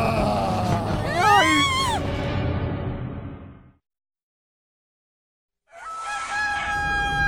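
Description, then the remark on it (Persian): A rooster crows loudly with a long, rising and falling cock-a-doodle-doo, then after about two seconds of silence another crow starts and is cut off, with faint clucking-like rustle underneath. “خروس منم دزدیدن، اونا هاش.”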